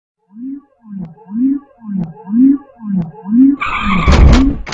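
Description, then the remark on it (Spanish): A car skids to a sudden stop, its tires squealing in a quick series of rhythmic screeches, then a loud, noisy crash bursts in at the end. “Si el coche se detiene repentinamente, todos los objetos dentro de él y sobre él seguirán moviéndose hacia adelante.”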